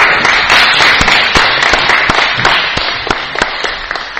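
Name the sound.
audience applause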